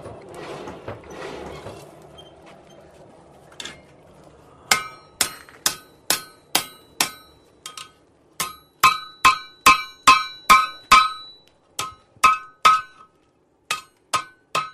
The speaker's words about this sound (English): The blacksmith gets his metal hot enough, out, brings it out of the fire to the anvil here, and gets his hammer and what other tools he's got, and starts shaping it into whatever he needs.